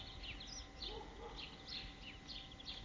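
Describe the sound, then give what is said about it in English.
Sparrows fighting and chirping in quick, overlapping bursts, a busy scuffle of short high tweets repeating throughout, fairly faint over a low background hum. “Sparrows are fighting.”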